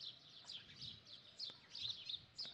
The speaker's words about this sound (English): the chirping, joyful mornings of the birds